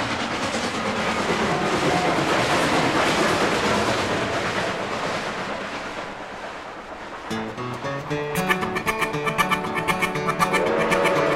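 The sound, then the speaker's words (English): A loud steam train chugs along the rails with a dense, rumbling hiss for several seconds, then fades slightly as a rhythmic tune with plucked, bouncy instruments starts up. “Puffin' and a chuggin', you know that engine will reach the summit and go down the other side.”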